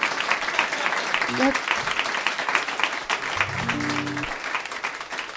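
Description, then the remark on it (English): An audience applauds a solo performer after a sad number, a dense wash of clapping lasting throughout, with a few brief voiced sounds and a short sung or hummed tone rising out of the noise partway through. “It's important to applaud quickly after the sad ones, because I'm up here by myself.”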